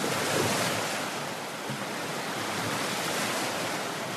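Steady rush of waves breaking on a Lake Michigan beach at the Platte River, a dense continuous wash of surf with slight swells in loudness and no voices.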